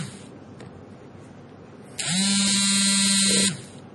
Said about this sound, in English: Sorry, there's an alarm.